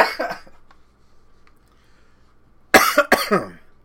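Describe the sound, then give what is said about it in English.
A harsh cough opens, then quiet, then a burst of two or three loud, forceful coughs in quick succession, as someone chokes on something that went down the wrong way. “Went the wrong way. Get some water.”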